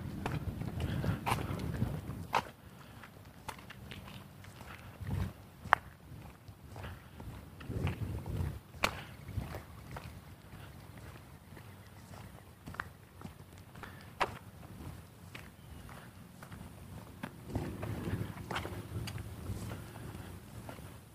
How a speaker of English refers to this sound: Happy dog, happy dog. Owner's up, giving him a run.